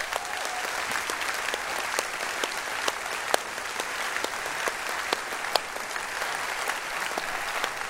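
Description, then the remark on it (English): A crowd applauds steadily for several seconds to thank those standing who have served or are serving in the armed forces, a dense, even wash of many hands clapping with occasional sharper individual claps standing out. No one speaks over it. “And so I just want to ask you, if you don't mind, if you've served in any of our armed forces or you're serving now or whatever the case, we'd love for you just to stand right now, and we'd like to thank you with a round of applause.”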